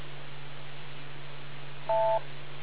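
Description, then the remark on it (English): A single short electronic beep, a two-toned phone-line tone lasting a fraction of a second, sounds near the end over a steady low hum on a telephone line. “Wait for the beep.”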